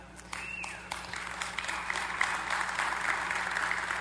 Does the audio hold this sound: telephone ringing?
no